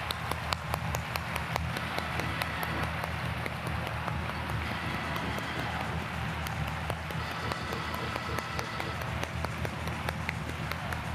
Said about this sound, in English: But get right in the devil's face and clap your hands.